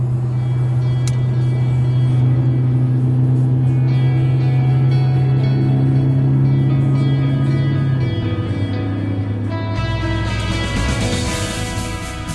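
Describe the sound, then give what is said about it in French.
A car engine hums steadily, then shifts pitch as it revs and pulls away, ending in a broader rush of road noise. No voices. “Alors on y va, mais vous devriez accélérer un petit peu, sinon on arrive en retard.”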